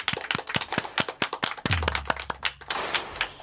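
Audience applause for the first visiting author at the Jocs Orals de Sant Martí, Ràdio Maconda 2024, the community radio of Barcelona's libraries, begins as steady, evenly spaced claps, then thickens into a denser wash of clapping toward the end. A soft low thump sounds midway, and no one speaks.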